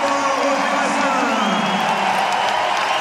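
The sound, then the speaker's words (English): A large crowd at Roland Garros on Court Philippe Cherchien gives a standing ovation to the doubles champions, a steady, loud roar of clapping mixed with voices, sustained without a break for the whole few seconds. “a standing ovation for the champions.”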